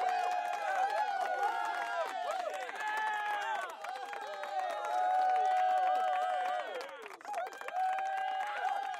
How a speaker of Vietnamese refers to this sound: Số 1 chọn ngay được hành trình đi New Zealand và cả bàn vỗ tay reo vui ầm cả phòng.